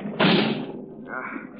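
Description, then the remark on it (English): A single heavy thud as a body slams against a vault door, trying to break it down, ringing briefly before fading into muffled voice-like sounds. “I'm going to try to break down the door.”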